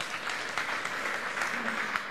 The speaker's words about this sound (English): Palapakan natin si Jesus.